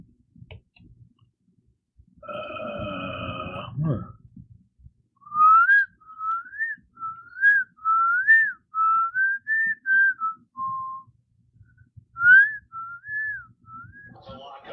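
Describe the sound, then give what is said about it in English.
A person whistles a lively little melody of rising and falling notes, clear, after a brief buzzy harmonic tone at the start; no one speaks. “Turd birds whistling. Who's whistling?”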